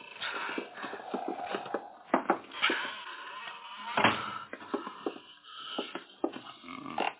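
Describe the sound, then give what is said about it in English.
An old cobwebbed door that nobody has opened for a long while creaks and groans open over several seconds, with scraping, shuffling and a few dull knocks mixed in, moderately loud, with no talking. “Ain't nobody open that door for a spell.”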